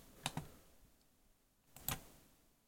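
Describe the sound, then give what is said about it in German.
A few crisp mouse clicks and keyboard taps as someone researches on a computer, two together and then another pair a moment later, quiet, with no one talking. “Das Klicken hat man jetzt gehört, ne?”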